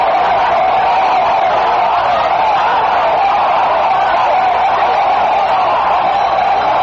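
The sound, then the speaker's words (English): A large protest crowd shouts on one of the busiest streets in Madrid, Spain, a dense, steady roar of many voices blending together, loud and unbroken throughout with no distinct words standing out. “The crowd spilled onto the street, one of the busiest in Madrid.”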